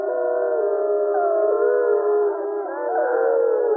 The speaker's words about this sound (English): So this is a group of wolves. It's like you walking into a bar and all the people are talking and you can pick out a particular person in the room. Wolves can pick out other wolves that they know in this cacophony of sound.